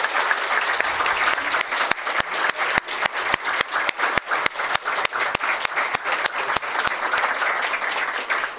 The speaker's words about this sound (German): Ich würde euch ja Applaus geben, aber es klingt so ein bisschen traurig, wenn ich als Einziger hier applaudiere. Deswegen gebt euch auch selber Applaus.